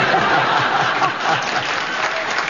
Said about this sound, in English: Well, they clapped that